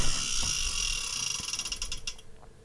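A ratcheting wheel spins with a steady stream of sharp, high clicks that gradually slow and spread apart as it winds down. No one speaks.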